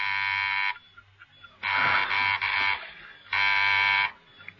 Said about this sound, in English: There was a sudden coded ring at the door.